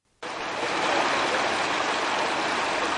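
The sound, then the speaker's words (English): Loud, steady rushing floodwater roars up abruptly after a brief silence and keeps churning without a break, powerful like a swollen stream, during floods caused by days of heavy rainfall in Germany, Belgium and the Netherlands, with no voices. “Throughout the region, heavy flooding caused by days of rainfall turned streams and streets”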